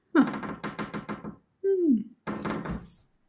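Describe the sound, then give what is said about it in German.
A quick run of sharp knocks on a door, then a short falling voice-like groan, then another burst of rapid knocking, fairly loud. “Voll gruselig mit einer Tür.”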